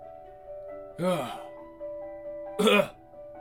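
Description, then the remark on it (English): Two harsh, raspy coughs or throat-clearing bursts, about a second and a half apart, over a faint steady hum. “I don't even need to fake that. The coughing, I think I got that down, unfortunately.”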